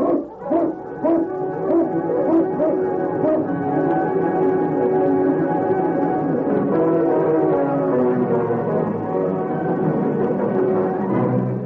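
A pack of husky sled dogs barks, yips and howls in an excited, overlapping chorus as a Mountie's team, with the lead dog King, sets off along a trail. The chorus is loud, with sharp barks bunched at the start and a steady clamor continuing throughout.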